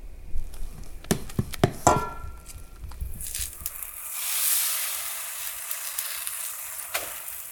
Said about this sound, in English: Okay, first pancake is going on.